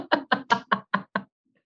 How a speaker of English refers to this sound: Is anyone in there? You knock. The door's locked. You knock.